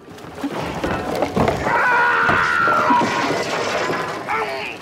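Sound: man screaming in terror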